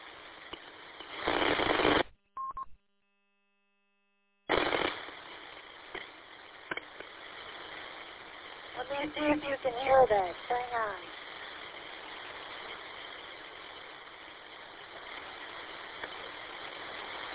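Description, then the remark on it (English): A PC's cooling fans roar at almost full speed in a steady, broad whooshing hum, with a loud burst early on, a couple of brief dropouts, and a muffled voice briefly in the middle. “Wow, the fans on my PC are going at almost full speed.”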